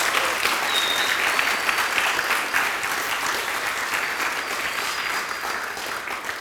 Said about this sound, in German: Vielen herzlichen Dank. Also da können wir gerne nochmal einen Applaus geben für euch.